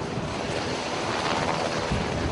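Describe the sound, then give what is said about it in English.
A steady, loud roar of U.S. Navy helicopters loading up with humanitarian relief supplies for northern Japan, a dense rushing wash of rotor and engine noise with a low rumble underneath, constant throughout with no voices. “The sound of U.S. Navy helicopters loading up with humanitarian relief supplies for northern Japan.”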